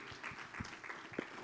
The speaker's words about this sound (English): Let's give the Lord a hand clap and praise for victory.